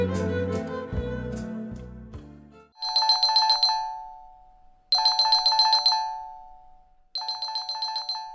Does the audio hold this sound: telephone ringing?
yes